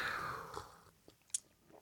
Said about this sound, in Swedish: Nu måste jag ta en klunk kaffe här.